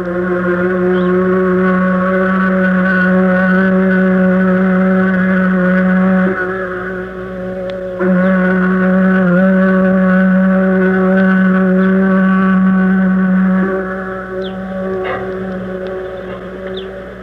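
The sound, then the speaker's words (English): A tractor engine idles steadily as it warms up across the street from the Blue Ox Inn, a loud, continuous low drone with a throbbing pulse that briefly drops off twice before resuming. No one speaks. “And in the background, across the street, you can hear a tractor warming up.”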